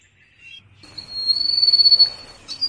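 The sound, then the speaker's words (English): A person imitates a lapwing's call with a long, steady, high-pitched whistle, preceded by a faint short peep and ending with a brief sharp squeak. “And now, try and copy the lapwing.”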